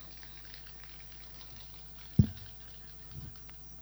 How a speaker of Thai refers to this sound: ขอตัดสินใจนิดนึงด้วยการดื่มน้ำหน่อย